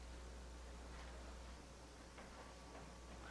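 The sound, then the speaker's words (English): Soft, scattered rustling of many pages as an audience turns to Matthew 6, with a few brief papery swishes over a steady hiss and no one speaking. “Love to hear those pages turning.”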